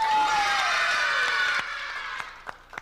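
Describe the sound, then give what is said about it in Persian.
A group of children shout a loud hooray together with clapping, the cheer filling the first moments before fading into scattered, separate claps near the end. “یه دست هورام دوست دارم برای تمام بچه هایی که الان دارن شما رو تماشا میکنن بزنی.”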